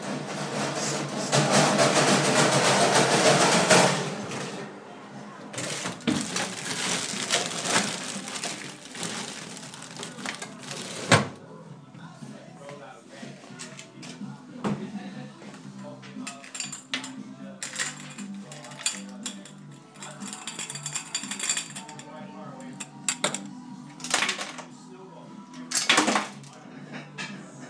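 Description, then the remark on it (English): A knife cuts through an orange on a board with wet, crunchy scraping. Soft handling noises follow, then a few sharp clinks as the orange slices are dropped into glasses as garnish, with no talking. “Slice some orange. To function as garnish. Put them in the glasses.”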